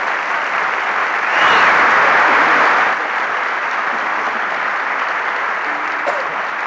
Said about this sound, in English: Everybody's applauding.